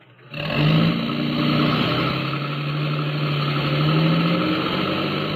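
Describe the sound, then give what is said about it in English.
A truck engine catches after a brief silence and settles into a loud, steady rumble, rising slightly in pitch as it pulls away. No one speaks. “Get in the truck.”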